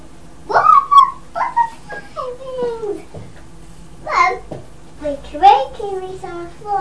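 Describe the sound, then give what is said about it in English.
Whimpering from a dog, high whiny notes sliding up and down in short bursts, broken by a couple of sharp yips or barks over several seconds. “Your doggy over there as well.”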